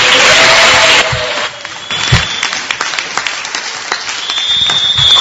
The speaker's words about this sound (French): Il est enseignant. C'est vraiment encourageant. Encore une fois, vos applaudissements pour l'encourager.